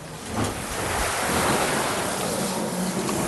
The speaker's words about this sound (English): And that is this engine's job. Water. It pumps water. 1 tonne per stroke. 1,260 litres. 12 strokes, 12 tonnes per minute.